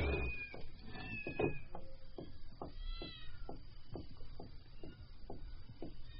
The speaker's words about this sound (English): Oh, kitten.